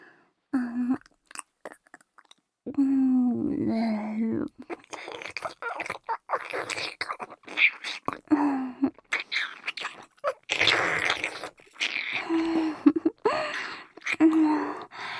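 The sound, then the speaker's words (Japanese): Wet chewing and smacking mouth noises repeat in irregular bursts, mixed with soft murmured baby-talk vocal sounds, fairly quiet, as a mother chews food to feed a baby. “ほら、もう一回食べさせてあげまちゅね。もぐもぐ。”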